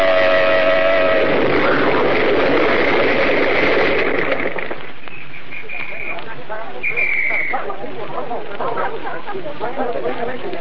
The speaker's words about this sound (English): They started to swing out of line and blew their horn, and then it happened. This awful explosion.